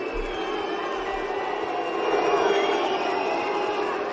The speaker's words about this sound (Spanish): Además de Davidovich, que ya tuvo que sufrir al complicado público francés, ayer Taylor Fritz, tras ganar a la última esperanza para los franceses en Roland Garros, tuvo que pagar con una oleada de abucheos.